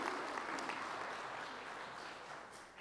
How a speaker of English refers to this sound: This is wonderful. Yes, you can clap.